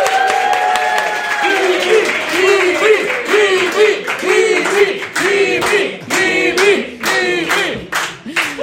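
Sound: studio audience applause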